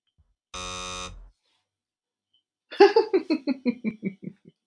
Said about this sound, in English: So, what we're going to do, we're going to play with some of these buzzers.